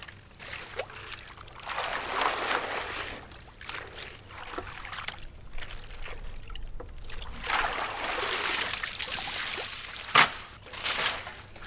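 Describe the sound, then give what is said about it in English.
Soaked willow rods are drawn up out of a water tank at a willow workshop in Galway, ahead of a class, with repeated sloshing and splashing swells and steady dripping and trickling between them. No one speaks. “Take the willow out of the water tank.”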